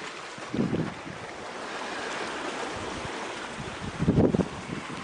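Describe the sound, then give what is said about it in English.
A steady, hissing wash of flowing creek water beside a small grassy meadow runs throughout, with two brief low rumbling buffets, like wind on the microphone, rising out of it. No one speaks. “Put them at the edge of the creek here.”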